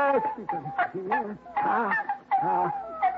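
Six newborn puppies whimpering, a steady run of thin, rising and falling whiny cries that overlap one another for a few seconds with no one speaking.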